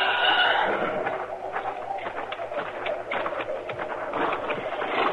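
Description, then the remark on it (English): Horses shuffle and stamp, their hooves giving off a steady run of dull clops and knocks over a broad, hissing background, with no one speaking. “Well, there are our horses. At least he didn't take them.”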